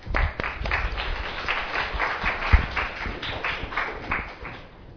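A room full of people clapping steadily, a dense sustained patter of many hands at moderate volume with no voices, continuing for several seconds before tapering slightly.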